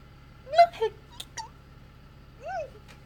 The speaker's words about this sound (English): I sound so ridiculous when I hiccup. No hiccups. No hiccups. No. This is someone fighting off the hiccups. Because I sound like a hamster when I hiccup.